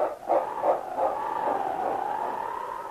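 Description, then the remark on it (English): A massive dog barks a few times in quick succession on a snowy trail, then the sound stretches into a sustained, slightly falling whine. It is moderately loud, with no talking. “And then, barking his determination, King turned and raced down the trail.”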